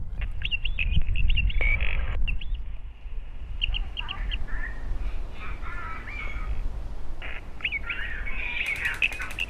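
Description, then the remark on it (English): Electronic bird calls and chirps from The Birds, a light-and-sound installation in woodland above Brighton after dark, repeat throughout: a mix of high twitters and harsher caw-like notes over a steady low rumble, moderately loud, with no talking. “It includes electronic bird song, video installations and lighting effects.”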